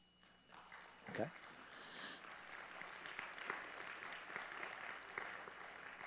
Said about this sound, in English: If applauding turns into praying, amen.